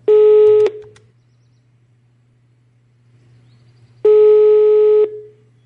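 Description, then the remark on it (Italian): A telephone ringback tone sounds twice, each a steady, clear electronic beep about a second long, separated by a few seconds of quiet over a faint low hum, as a call is placed to a resident of a retirement home. No one speaks. “Adesso provo a telefonare ad un'altra ospite della Casa per Anziani Ricordone, qua sopra,”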